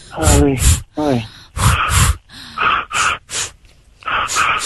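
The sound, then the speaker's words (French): Heavy, rhythmic panting, quick loud breaths in and out, some with a voiced gasping edge, as a person breathes as if on a light jog. “Respire comme si tu faisais un petit footing avec moi, vas-y”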